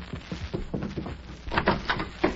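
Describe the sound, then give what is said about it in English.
A door creaks open in a series of short groaning squeaks, followed by a few louder rattling knocks as it swings, quiet overall. “When they come to the door, Mag, you open it so I'll get the drop on them.”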